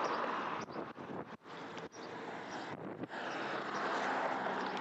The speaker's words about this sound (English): And the traffic near us whizzing by.